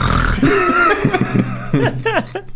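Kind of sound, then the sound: vocal imitation, voice imitating loud snoring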